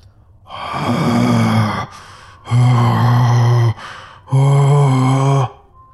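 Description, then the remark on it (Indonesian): Three long, guttural groans from a creature with a blackened, ruined face right in front of someone who has fallen, each a loud, harmonic, throaty moan lasting over a second, separated by brief breathy pauses. “Nafas yang sangat busuk terhirup di hidungku dan dia menggerang tepat di depanku.”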